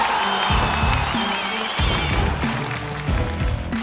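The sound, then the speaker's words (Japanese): A crowd at an MC rap battle claps steadily and loudly throughout, a dense wash of applause with a thumping, beat-like pulse underneath and no talking. “大きな拍手。”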